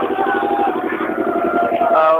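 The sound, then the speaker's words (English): A boat engine runs loud right where people stand waiting for the boat during a pilgrimage (parikrama), a steady rumbling drone with a rapid, regular chugging pulse that holds throughout without pause. “We just wait for the boat because there's the engine over here where we're standing. Making a lot of noise”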